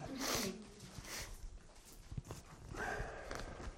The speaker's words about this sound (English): blowing his nose in minute number 13 or something.